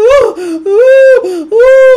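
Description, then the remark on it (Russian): A person imitates crying with three drawn-out, wavering whimpering wails, each rising and sagging in pitch, voiced loudly with brief breaths between them. “Вы знаете, что есть люди, которые плачут так. Ой, они плачут.”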